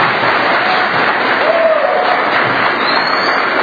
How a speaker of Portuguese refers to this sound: Aí, a palavra do prefeito Bruno Mota, sendo aplaudido, sendo ovacionado aqui pelos presentes na Câmara Municipal de nosso município, né, onde anunciou já aí o extrato do já feito até agora em sua gestão.